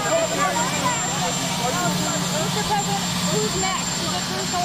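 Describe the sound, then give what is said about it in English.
A helicopter's loud, steady rotor and engine roar fills the whole recording, with a person talking over the continuous mechanical drone. “I can't hear you too well. You have a helicopter.”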